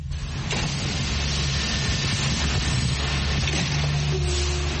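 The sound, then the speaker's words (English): Computer-controlled robotic welding arms in a car factory, welding two places, one arm above and one below: a steady, loud mechanical drone with deep humming tones and a constant whir, a brief higher whine joining near the end, no voices. “The computer tells the machine to weld only those two places. One arm welds above and one arm welds below.”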